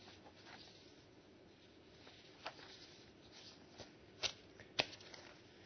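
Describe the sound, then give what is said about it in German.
Paper pages are being leafed through: a quiet, continuous papery rustle with a few sharper flicks toward the end, and no one speaking. “Ich muss da ein bisschen blättern.”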